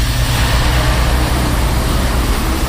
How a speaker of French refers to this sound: À Kazlouda, le va-et-vient des camions rythme le quotidien de la petite ville. Il y a ceux qui arrivent chargés de longs rondins de bois, et ceux qui repartent, leurs remorques remplies de meubles.